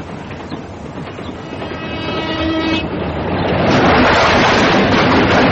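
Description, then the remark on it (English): A train rolls along the rails with a steady rumbling roar, a horn sounding briefly midway, and the noise swells louder toward the end. No voices are heard. “There isn't another train for an hour and a half.”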